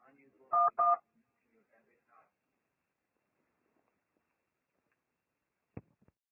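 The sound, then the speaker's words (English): Two short, steady telephone keypad tones beep in quick succession as a number is dialed after a beep to reach a bank's anti-fraud department, each a clean dual-pitched bleep, followed by near silence with faint murmurs and a single sharp click near the end. “Once you dial that number, your call will be connected with the anti-fraud department of the lawyer's bank, okay?”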